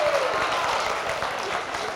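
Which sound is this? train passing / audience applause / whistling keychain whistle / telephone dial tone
audience applause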